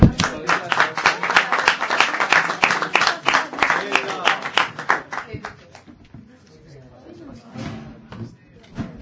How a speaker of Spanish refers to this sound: Ya por fin se van a animar. Igual con un aplauso se anima, ¿va?